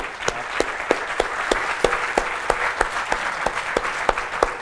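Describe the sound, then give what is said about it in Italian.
An audience applauds steadily after a presentation, a dense wash of clapping with a few sharper, evenly spaced claps standing out at a brisk rhythm. No one speaks over it. “senti, un applauso.”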